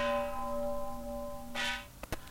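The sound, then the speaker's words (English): Gong cymbals ring out with a loud, sustained metallic shimmer that slowly fades, followed by a brief wash of noise and a couple of sharp clanks near the end. “And I sure wish I could slow these gong cymbals down.”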